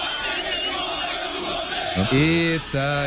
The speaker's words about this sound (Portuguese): Os torcedores de Brasil e Argentina fizeram uma festa antes da bola rolar lá na frente do Mineirão